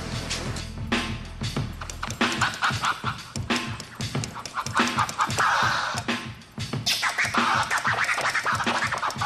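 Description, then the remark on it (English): DJ Storm scratches vinyl on turntables during a soundcheck for a concert, with rapid rhythmic back-and-forth bursts of raspy, swooping sound over a low bass pulse, loud and continuous with no talking. “Let's go inside and scratch some records.”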